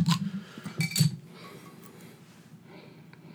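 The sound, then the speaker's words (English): A bottle of Wells Banana Bread Beer is opened: a few sharp glassy clinks and a quick pop of the cap, followed by a soft, steady hiss that fades out over the next couple of seconds. “Yeah, well, let's open it up. And okay. This is a bottle.”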